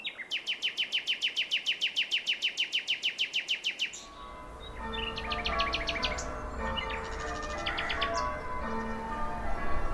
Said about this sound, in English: the sound I like to hear in Suffolk, most beautiful sound, is the nightingale.